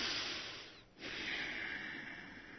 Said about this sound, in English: I strongly recommend nasal breathing, in and out through the nose, not the way you're usually taught to do it.